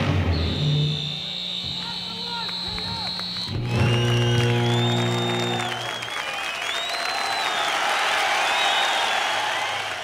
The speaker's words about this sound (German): Applaus nicht nur für die vielen kaputten Gitarren.